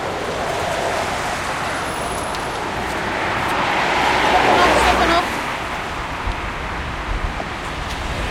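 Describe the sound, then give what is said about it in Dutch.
Steady roadside traffic rumble with a bus or heavy vehicle swelling louder midway before receding, wind buffeting the microphone and faint voices underneath. “Oh, maar ik moet de bus in.”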